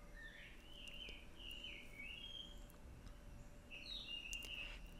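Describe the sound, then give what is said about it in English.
A jungle bird calls outdoors in a few bright, warbling phrases, one burst early and another near the end, over a steady low hum of ambient background noise. “You hear this bird out here, this jungle bird?”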